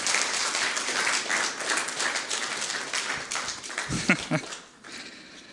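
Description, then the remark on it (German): A church audience applauds with dense, steady clapping that carries on for several seconds, a brief vocal sound rising near the end before the clapping thins out and fades. “Ihr müsst nicht immer applaudieren, aber es fühlt sich gut an.”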